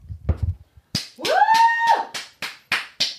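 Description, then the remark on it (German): One person claps loudly, about seven sharp, evenly spaced claps, with a long rising-and-falling whoop of cheering in the middle. A few low mumbled sounds come first. “einen lauten Applaus von dir.”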